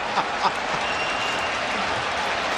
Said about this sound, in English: Well, no matter what, even the Toronto fans are cheering him on. This is unbelievable.